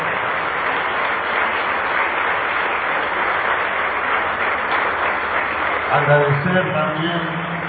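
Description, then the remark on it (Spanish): A crowd claps loudly and steadily, a dense wash of applause for the social volunteers that fills the whole clip, with a voice starting to speak over it near the end. “Para ellos yo les pido un fuerte aplauso y que se escuche muy fuerte.”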